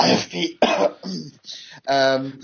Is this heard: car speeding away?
no